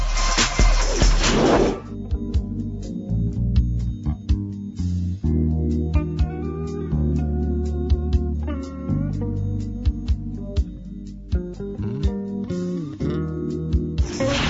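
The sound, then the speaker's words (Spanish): A brief instrumental music interlude between segments of the radio program Momento Económico opens with a rushing burst of noise, then settles into steady, fairly loud music with sharp percussive hits and sustained tones, no voices. “Un corte musical, regresamos.”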